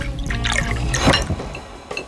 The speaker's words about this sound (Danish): bliver fyldt. Nej. Og tømt. Fantastisk lyd. Det lyder fuldstændig som vand. Det lyder så radiofonisk.